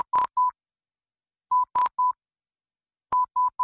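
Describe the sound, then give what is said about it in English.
Three bursts of Morse code, each the letter S, as in the wireless transmission from Portsmouth, England, that Marconi received at St. John's, Newfoundland, on December 12, 1901: three short, even beeps on a steady mid-high tone, separated by pauses, with faint clicks at the start of each group. “The transmission was the letter S in Morse code, of course. It just went dit, dit, dit.”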